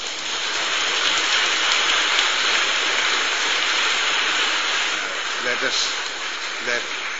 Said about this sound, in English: Let us give a clap for that Jesus now. A teď zatleskeme Ježíši Kristu.